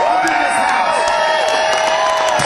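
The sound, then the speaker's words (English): A loud, sustained crowd roar of cheering and whooping at the Wild Horse Saloon, with high-pitched shouts and whistles rising over a dense wall of voices and scattered claps throughout. “Wild Horse Saloon. Make some noise.”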